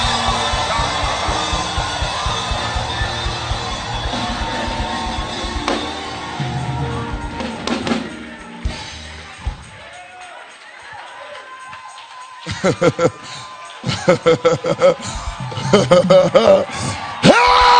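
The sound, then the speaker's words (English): A large crowd at a praise and worship gathering erupts in loud, sustained, dense screaming and cheering, easing briefly before bursts of rhythmic clapping and renewed shouts build back up toward the end. “Somebody scream.”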